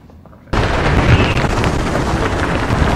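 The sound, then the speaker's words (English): Strong wind from a storm that became tropical depression number 19 suddenly roars in at Ocean Reef after a moment of near-quiet, then blasts steadily and loudly against the microphone with heavy rumbling buffeting. No one speaks. “We left and we decided to come back because a little storm decided to spin up and become a tropical depression, number 19.”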